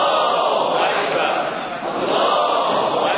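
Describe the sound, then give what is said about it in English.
A large crowd in Iran cheers and shouts in celebration of President Ahmadinejad's announcement that the Natanz uranium enrichment facility has 3,000 centrifuges working, a loud, steady roar of many voices with a brief dip partway through before it surges again. “A crowd celebrated the announcement that President Ahmadinejad had said that the Natanz uranium enrichment facility has 3,000 centrifuges working.”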